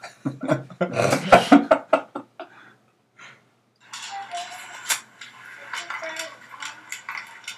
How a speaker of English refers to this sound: A dog walking across the kitchen floor.